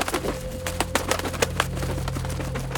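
A rapid, irregular series of sharp wooden raps on the black door of a small building on a little street by the Thames, moderately loud over a low steady hum. No one speaks.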